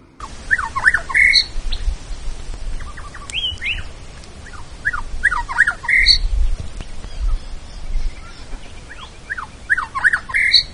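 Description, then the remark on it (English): Corellas screech in three clustered bursts in the distance at Cooper's Creek. A peaceful dove and a little pardalote in the tree overhead call softly, a dingo is across on the other side of the creek, and a cicada hums in a warm breeze. “A dingo across on the other side of Cooper's Creek, a peaceful dove and corellas in the distance, a little pardalote in the tree overhead, a cicada in a warm breeze.”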